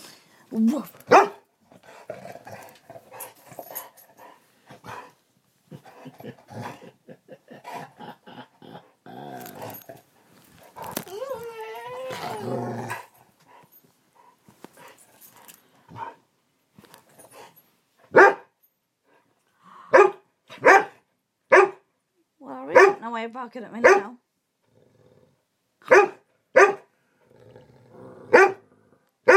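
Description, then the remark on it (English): A dog growls and whines, then lets out a series of sharp, loud barks in irregular bursts at a person, who talks quietly in between. “Barking at me now.”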